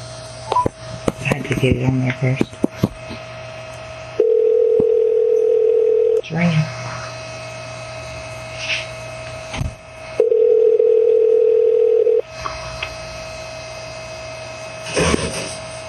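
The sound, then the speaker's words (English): A telephone ringback tone on an outgoing call sounds twice, each steady buzzing ring lasting about two seconds with a long pause between, preceded by a few clicks and soft background noise. “It's ringing.”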